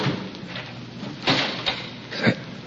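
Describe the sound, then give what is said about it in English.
The outer door of a house closes: a few muffled knocks and a final dull thud rise briefly above a steady, hissy background, all fairly soft, with no one talking. “It was a door closing. I'm sure of it. Someone closed the outer door.”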